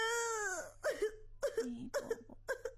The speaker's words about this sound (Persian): از وقتی که اومدی هم تو گریه کرده رایستی. خب چی شده؟ به ما بگو، گپ بزن.